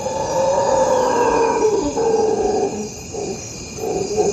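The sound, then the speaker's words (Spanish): Howler monkeys roar in a deep, continuous, droning chorus that swells and dips over several seconds, sounding distant and echoing, at a nature reserve on the banks of the tropical Magdalena River in Colombia, with no one speaking. “A lo lejos se oye el rugido de los monos aulladores.”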